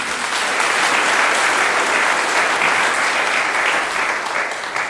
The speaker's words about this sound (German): Vielleicht auch einen kurzen herzlichen Applaus.